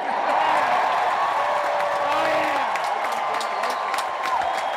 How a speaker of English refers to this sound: Biggest applause line of the night by far. Like, the catharsis of waiting for Trump is satisfied by this.